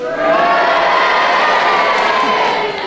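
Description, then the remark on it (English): A studio audience cheers and boos at the same time, cheering for Kenneth Williams' challenge and booing for Alfred Marx, a loud, dense roar of mixed voices that holds steady for the full few seconds with no one speaking over it. “Ladies and gentlemen, if you agree with the basis of Kenneth Williams' challenge, will you cheer for him? And if you disagree, will you boo for Alfred Marx?”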